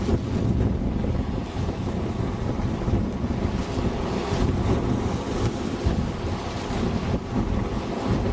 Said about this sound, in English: Some pretty good wave action.